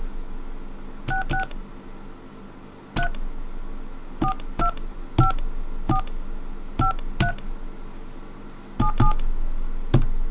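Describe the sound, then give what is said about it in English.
A series of short touch-tone beeps from a phone keypad, about a dozen key presses in irregular clusters, each with a sharp click, over a low background hum and no talking. “let's see if that resets your dial tones.”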